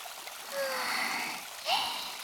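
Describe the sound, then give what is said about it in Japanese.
River water flows steadily in a shallow stream around someone's feet, a soft continuous rush with faint trickling and a brief splash near the end, at low volume. “この足に溜まった熱が川に流されていく感じ。”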